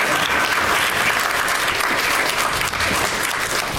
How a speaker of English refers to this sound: They're really making you applaud for a long time. With their casual stroll to the stage.